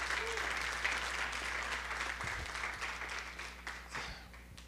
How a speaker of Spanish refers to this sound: Dios puede hacer mucho con poco o con mucho. Dale un aplauso a Dios.